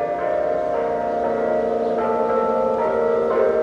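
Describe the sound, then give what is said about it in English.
The noontime bells of St. Joachim's Catholic Church in Trenton ring loudly and continuously, their overlapping tones humming and sustaining into a dense, ringing wash, with fresh strikes swelling in now and then and no voices. “And you hear it, too, in the noontime bells of St. Joachim's Catholic Church.”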